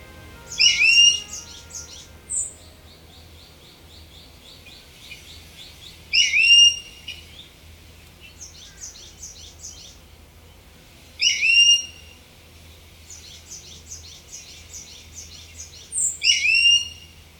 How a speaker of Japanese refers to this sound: 今月は本州にもいますが、沖縄では姿や鳴き声が違う鳥たちを紹介します。石垣島の防風林から聞こえてきたのは石垣ヒヨドリの鳴き声です。